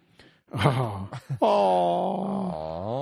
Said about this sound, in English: Gasps of shock and awe.